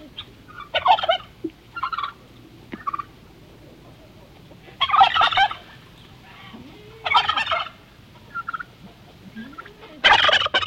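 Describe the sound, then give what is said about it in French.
A turkey gobbles repeatedly, loud rattling bursts coming every couple of seconds at uneven intervals, with a few shorter, softer calls in between and no talking. “le dindon digne qui avait le dédain des dons.”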